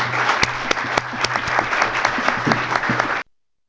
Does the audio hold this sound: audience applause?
yes